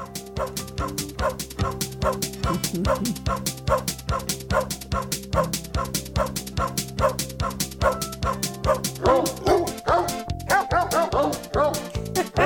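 Dogs bark and yip in a rapid, steady rhythm for the whole stretch, loud, with a sustained tonal backing beneath them and no talking, played on the radio show Animal World.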